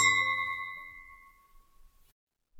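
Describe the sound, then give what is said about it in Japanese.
A single bright clink of glasses touching in a toast, leaving a clear high ringing tone that slowly fades over about two seconds. “未来に乾杯しましょう。”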